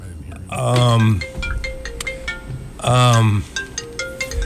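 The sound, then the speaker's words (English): A pay phone rings in two loud, buzzy bursts about two seconds apart, each a rich warbling tone, with a faint steady hum between them. “It's a pay phone.”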